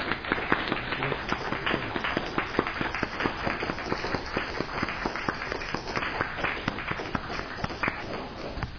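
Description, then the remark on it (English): A group of people clapping their hands together for God Almighty, a dense, steady patter of many overlapping claps that continues evenly for several seconds without anyone speaking. “In fact, let's put our hands together and clap for God Almighty.”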